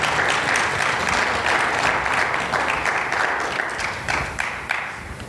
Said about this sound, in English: The last speaker is my beautiful wife that's going to be speaking. Amen. As we give her a good clap offering.